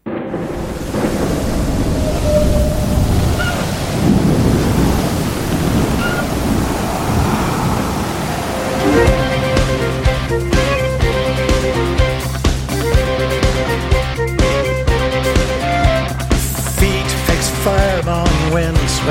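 Roaring surf and stormy wind fill the opening seconds, then a rock song with flute kicks in, its steady bass and bright melody carrying through to the end, loud and close, with no voices.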